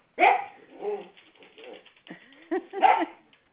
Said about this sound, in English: Potsy wants to play. Look. Who's that? Is that Apollo? Hmm? Good. Go ahead. They're barking at each other.